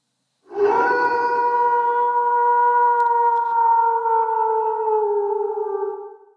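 wolf howling

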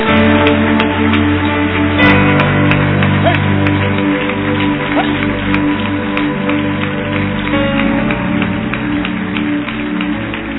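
loud audience applause

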